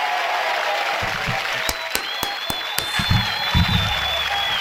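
A crowd applauds steadily for a few seconds for a man being introduced on a show, dense clapping with a few sharper claps standing out, a high whistle rising through it, and scattered cheers and voices underneath.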